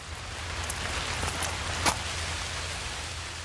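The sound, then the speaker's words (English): Steady, dense rain hisses throughout, with a few sharper splashes and drips standing out near the middle, plus a low rumble underneath. It is the rain scene with Gene Kelly from the film Singing in the Rain. No one speaks. “It's Gene Kelly out there in the rain.”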